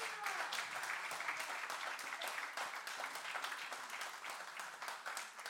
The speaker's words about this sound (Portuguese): Claro que sim. Claro que sim. Uma salva de palmas.